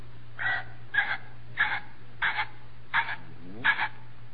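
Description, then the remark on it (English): A person imitates a ringneck pheasant call with six short, raspy bursts at a steady pace, roughly one every half second, over a faint low hum. “Now, ringneck pheasant. How does a ringneck pheasant sound?”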